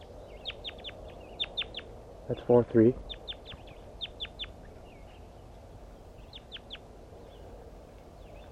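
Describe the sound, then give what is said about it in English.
Soft, high bird communication calls repeat in small clusters of quick chirps throughout, fairly quiet. A person briefly says a few words midway. “Start recording soft communication calls of the birds.”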